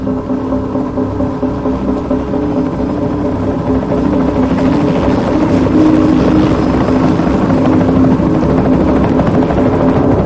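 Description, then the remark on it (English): A helicopter drones loudly as it lowers a wing fragment from a crashed plane on its line onto a pier, then flies off once the cable is unhooked. Its rotor and engine noise is steady and unbroken for the whole stretch, swelling slightly partway through, with no voices. “A worker rushes over to unhook the cable, and the helicopter flies off.”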